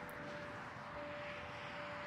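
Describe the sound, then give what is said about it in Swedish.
A steady, low roar of distant motorway traffic fills the whole stretch, an even wash of rushing noise with no individual vehicles standing out and no voices. “Bara lite ljud från bilar på en motorväg en bit bort.”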